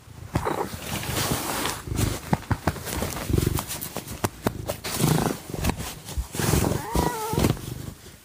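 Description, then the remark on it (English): A gold-and-white cat that lives in a bodega purrs while being petted, a steady low rumbling drone that swells and fades, with soft rustles and sharp clicks from hands moving through fur. “I threw in a little audio of Jesse purring at the end of this clip, too.”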